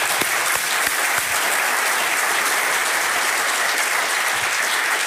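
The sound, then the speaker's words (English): A crowd claps steadily and loudly for several seconds in honour of a planetary scientist, a dense, even wash of many hands with no pauses and no voices rising above it. “I think planetary science is really in debt to Angioetta very much, and I'd like to applaud her.”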